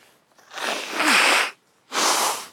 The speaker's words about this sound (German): Achtung, geht los. Könnt ihr eigentlich einhändig ins Taschentuch rotzen?